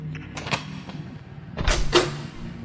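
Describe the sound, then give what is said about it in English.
A heavy metal key scrapes and clicks in a door lock: a few small metallic ticks, then a louder turning clack and latch release, over a faint low hum with no voices. “Holding it firmly, he walked to the door and sunk it into the keyhole.”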